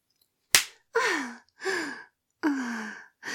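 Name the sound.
hand slapping bare skin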